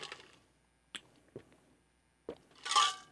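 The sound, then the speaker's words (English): A few brief clicks and clinks, like ice shifting in a glass, are followed by a louder airy slurp as someone sips homemade iced tea from a glass. No one speaks. “Oh, I'm drinking iced tea because I'm afraid that if I drink beer, let me take a sip of this fine iced tea.”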